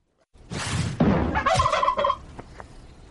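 turkey gobbling

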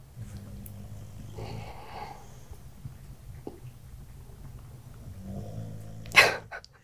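dog snoring

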